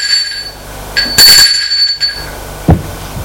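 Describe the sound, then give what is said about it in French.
A doorbell rings at an apartment on the second floor: a bright, sustained metallic chime with a loud burst in the middle, fading into a lingering high tone, then a single dull thump. No one speaks. “Sonne.”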